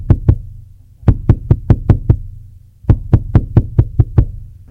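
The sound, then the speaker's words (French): Sharp wooden knocks on a door in three bursts: two quick raps, then a run of six, then a longer run of seven, loud, with a low hum underneath and no voices. “une heure plus tard, on frappa à la porte.”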